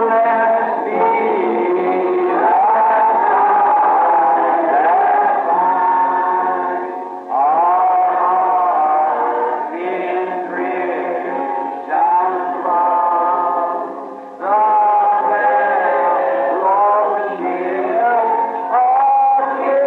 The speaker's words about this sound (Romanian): Acum, în timp ce cântăm acest ultim verset, să ne ținem mâinile unii cu alții când ne vom despărți și doar să spuneți, Dumnezeu să te binecuvinteze, frate, soră.